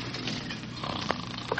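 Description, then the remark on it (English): A dog, Loser, and a killer wolf growl and snarl at each other as the wolf sneaks up on the dog's sleeping master: a rough continuous rumble with sharper bursts, swelling louder right at the end. “Yesterday, as Congo Kurt slept, his faithful dog, Loser, spotted a killer wolf sneaking up on his beloved master.”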